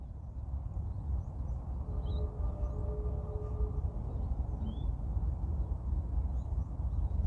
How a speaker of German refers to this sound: Jetzt darfst du noch mal eine kurze Runde auf diese Vögel hören.